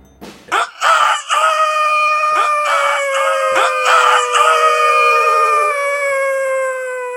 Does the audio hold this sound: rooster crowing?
yes